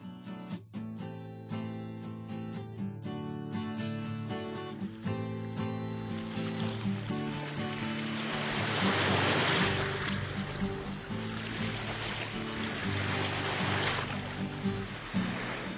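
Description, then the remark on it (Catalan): Sea waves wash and surge in broad, rolling swells around a sailing boat on the Mediterranean Sea, building to a louder crest midway, while a sustained melodic music bed plays over the opening seconds and fades beneath the water. “Després d'un llarg viatge per la mar Mediterrània, navegant a tota vela, va arribar a Síria”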